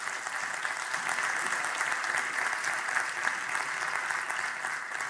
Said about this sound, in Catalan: Doncs un aplaudiment pels dos